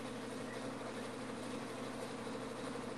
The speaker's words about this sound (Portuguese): Não é o trem de Valadares, não. É o ventilador que ele tem no quarto dele. Que tá fazendo barulho